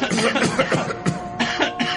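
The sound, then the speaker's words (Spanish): A person imitates a churchgoer at mass having a fit of coughing, a quick run of five or six harsh, fairly loud coughs in steady rhythm, with no talking in between. “Entra al templo y tose.”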